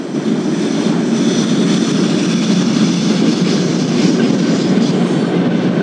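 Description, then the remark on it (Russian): A train rumbles past, a loud, steady roar of wheels and rail noise that stays constant throughout, with no voices. “Видите, почувствуйте, как поезд уносит позицию жертвы из вашего пространства.”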